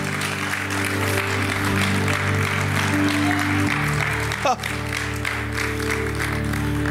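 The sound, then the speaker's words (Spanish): An audience claps steadily for about seven seconds, a dense, even wash of applause that stays loud throughout, with sustained low musical tones humming underneath. “No, si le va a aplaudir, apláudale, por favor.”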